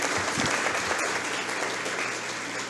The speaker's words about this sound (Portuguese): e pedimos assim também uma salva de palmas ao mesmo que se encontra em nosso meio. Muito obrigado.